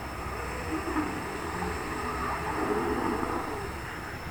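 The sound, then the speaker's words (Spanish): A single slow ujjayi inhale drawn through a narrowed throat: a steady, raspy, ocean-like hiss held evenly for about four seconds, with no talking. “Inhalamos haciendo este ruido.”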